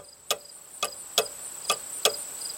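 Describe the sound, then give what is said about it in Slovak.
A large pendulum clock in a kitchen ticks steadily, six crisp, evenly spaced clicks over a faint continuous high hum, fairly quiet with no one speaking. “Milka poslúchne a podíde k veľkým kyvadlovým hodinám. Dusno v kuchyni pretne ich pravidelný zvuk.”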